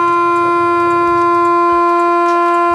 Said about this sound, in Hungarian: Természetesen az első alapvető kürtjel a hosszú hangjelzés.